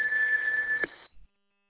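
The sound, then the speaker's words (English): A steady, high electronic beep of a radio transmission timeout timer holds for nearly a second over hissy radio static, then the transmission cuts off abruptly, followed by a brief low thump. “Did you just have a timeout timer there real quick?”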